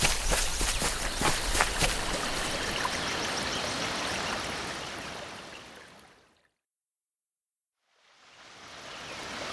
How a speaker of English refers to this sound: It's under the waterfall now.